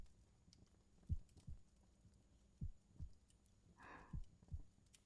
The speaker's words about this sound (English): Come closer. Do you hear that? Here. Give me your hand. I want you to feel my heartbeat.